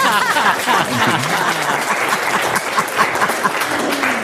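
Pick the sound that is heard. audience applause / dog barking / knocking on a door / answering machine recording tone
audience applause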